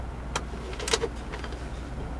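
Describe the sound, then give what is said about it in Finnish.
A steady, even hiss of air conditioning fills the interior of an electric bus of Lahti local transport, Finland, just switched on, with a low hum underneath and a few brief clicks and clacks from switches or keys early on. “Niin kuin kuuluu, niin kovin ääni, mikä tässä kuuluu, on ilmastointilaitteen suhina.”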